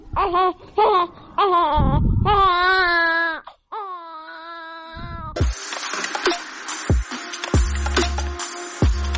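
A baby in Tajikistan cries loudly in a string of high, wavering wails for several seconds, then a noisy, jumbled commotion with thuds and clatter takes over.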